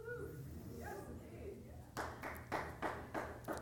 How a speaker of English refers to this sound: Don't clap yet, I'm not finished.